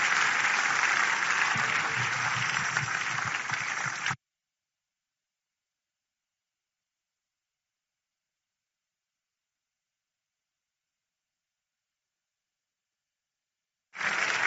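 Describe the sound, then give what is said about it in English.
A large crowd claps for God in a dense, steady wash of applause for about four seconds, then it cuts off abruptly into long silence before clapping briefly resumes at the very end. “Don't you think God deserves a bigger clap?”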